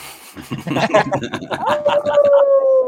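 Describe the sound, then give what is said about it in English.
A dog named Pinto lets out a long, drawn-out howl that holds a steady pitch and slowly sags lower, preceded by a jumble of yips and chuckling voices. “What kind of dog you got there”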